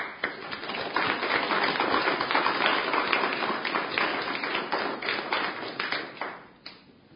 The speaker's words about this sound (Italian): diamo il nostro applauso con tutto il cuore.